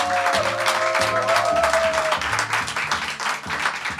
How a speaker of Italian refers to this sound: quindi quelli che sono qua sono particolarmente coraggiosi, dunque un altro applauso a voi stessi.